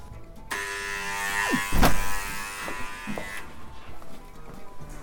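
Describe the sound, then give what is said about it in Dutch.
A doorbell buzzer, rung by visitors on a Sunday, sounds in one long, steady electric buzz lasting about three seconds, harsh and raspy, with a few soft knocks and clicks around it before it cuts off. “Maar het lijkt wel alsof ze die bel niet doet.”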